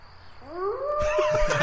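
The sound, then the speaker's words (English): A single drawn-out howl that swoops upward in pitch and holds a wavering, cat-like wail, with a rough burst of noise joining it halfway through. “I forgot that howl.”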